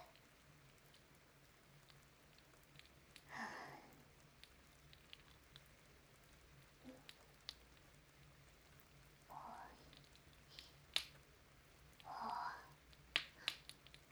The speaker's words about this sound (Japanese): 外結構雨すごいですね。先生もそんなに濡れるほど。